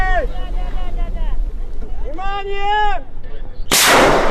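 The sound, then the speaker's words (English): Voices call out in long, gliding tones, then a flare fires to start a race of skin boats rowed by teams of women on a protected bay off Russia's Bering Sea coast in Chukotka, at the Arctic Games: a sudden loud, rushing burst of noise that holds to the end. “A flare soars into the air, and they pull with all their strength at long wooden oars.”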